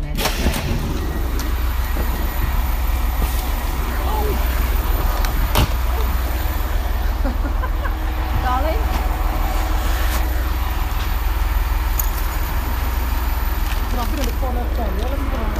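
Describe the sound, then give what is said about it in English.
A passenger train bound for Aylesbury Vale Parkway, next stopping at Chalfont and Latimer, runs steadily on the rails. Its loud, continuous rumble carries occasional sharp clacks. Faint, indistinct voices sit under the noise. “This train is for Aylesbury Vale Parkway. The next station is Chalfont and Latimer.”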